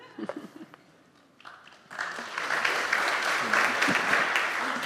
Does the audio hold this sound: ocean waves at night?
no